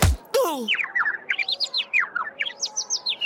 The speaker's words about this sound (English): Oh, does anyone else see the little flying birds?